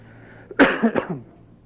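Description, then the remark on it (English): A couple of loud coughs burst out in quick succession as someone tests a microphone, the first sharp and strong, followed by a softer trailing cough, against a faint steady background hum. “I'm just coughing to check my thing out.”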